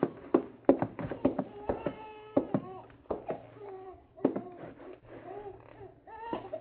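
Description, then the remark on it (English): A baby howls in a house with no lights on, in repeated, wavering cries that rise and fall, broken up by sharp tapping or knocking thuds throughout. “There isn't a light on in that house with a baby howling like that.”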